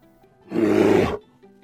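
A single loud, rough polar bear growl bursts out, lasting under a second with a deep rumbling texture, then cuts off into near silence.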